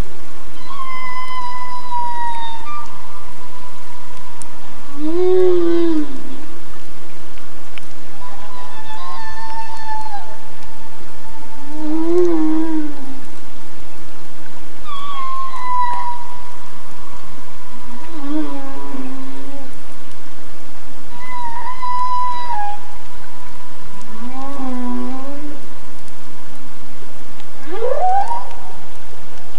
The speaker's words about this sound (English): And we end with the sounds of humpback whales in Glacier Bay.